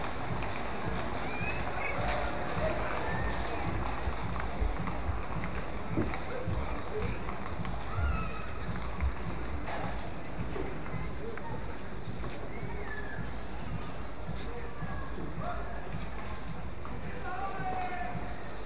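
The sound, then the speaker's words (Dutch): Horse hooves clip-clop steadily on a hard road as horses pull the Golden Coach, with Royal Stables staff walking alongside the horses, the rhythmic clatter carrying over a constant outdoor murmur with indistinct voices in the background. “En daarom lopen er ook naast de paarden medewerkers van de Koninklijke Stallen mee om eventueel te kunnen corrigeren.”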